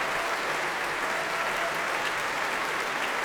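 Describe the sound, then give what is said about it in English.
Sustained applause from a large audience at the Proms, with conductor Vasily Petrenko and members of the Oslo Philharmonic Orchestra clapping for violinist Baiba Sprida's Proms debut, a dense, steady wash of many hands clapping at once with no voices rising above it. “Vasily Petrenko behind her applauding, and she shows her gratitude to the members of the Oslo Philharmonic Orchestra, all of whom clapping her debut here at the Proms.”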